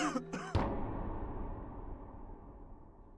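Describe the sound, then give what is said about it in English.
A man coughs once right outside the house, just outside the back door, at night, heard from the kitchen: a short, muffled burst followed by a low, fading rumble in an otherwise quiet space. “But then one night, while sitting at the table in the kitchen, I heard a man cough right outside the house.”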